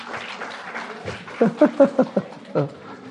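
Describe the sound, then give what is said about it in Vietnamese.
A small audience gives brief, half-hearted applause for a woman whose answer was called correct, the clapping thin and scattered while voices chatter and call out over it partway through. “Thầy nghe các bạn vỗ tay là thầy biết các bạn không thích lắm.”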